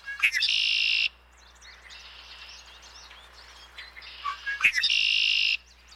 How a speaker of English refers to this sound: You know, when I hear the red-winged blackbirds, you know, they're whistling, and I think they're whistling to say, get off your duff and go fight against climate change, partner. So they keep me inspired.